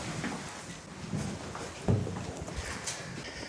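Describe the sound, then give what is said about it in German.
A handed-over key turns in the lock of a well-locked door with a few metallic clicks and rattles, then a solid clunk as the door opens, followed by faint shuffling and handling noises. “Die Tür ist sehr gut verschlossen. So, und jetzt kommen wir durch.”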